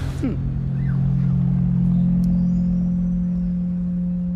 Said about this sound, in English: the tires on the street. It's a little dusty, a little gritty, and it rumbles.